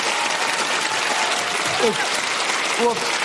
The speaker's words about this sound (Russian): Аплодисменты, ребята!